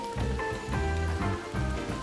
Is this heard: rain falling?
yes